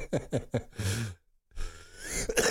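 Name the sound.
cough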